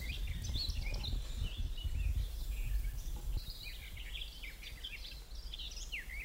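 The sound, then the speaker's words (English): Two garden warblers sing rapid, warbling phrases against each other, competing, at a nature reserve by Loch Ken, with a fainter scratchy whitethroat singing in the background and a low rumble of wind or traffic underneath. “There's two. There's one over here and they're competing. And a wee white throat in the background as well.”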